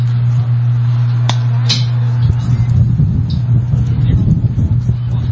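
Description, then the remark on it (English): Wind gusts buffet the microphone with a loud, uneven low rumble that swells and surges, following a few seconds of steady low hum, during a Galveston College baseball game, the wind lifting toward left field. “As you hear the wind gusting here as it lifting toward left field.”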